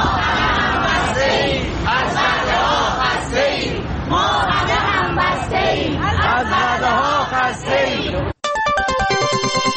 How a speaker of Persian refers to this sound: در این حال شماری از فرهنگیان بازنشسته در مقابل وزارت آموزش و پرورش در تهران تجمع و به پرداخت نشدن پاداش سال 97 خود اعتراض کردند. آنها شعار می‌دادند ما همه همبسته ایم، از وعده‌ها خسته ایم.